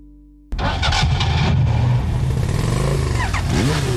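An engine cranks and catches abruptly after a brief low hum, then roars loudly with rising and falling revs, its pitch sweeping up near the end as it's throttled hard.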